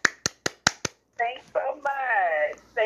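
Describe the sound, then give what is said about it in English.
Five sharp hand claps in a quick, steady rhythm, fairly loud and crisp, clapping for a comedian guest on an interview, followed by a person talking. “Okay, I'll clap for you.”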